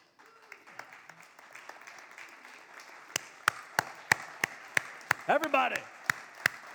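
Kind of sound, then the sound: crowd, audience clapping hands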